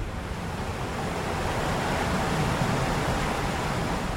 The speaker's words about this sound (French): Vous entendez le vent et la mer juste en bas.